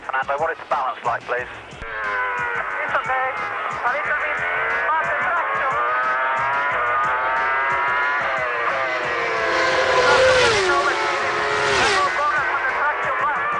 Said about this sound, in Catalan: Aquest li contesta mentre el motor Renault rugeix de fons.